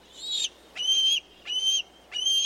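A juvenile bald eagle, not long out of the nest, gives four high, thin, whining calls in a steady repeating rhythm, each with a sharp start and a drawn-out tone, fairly loud with no talking.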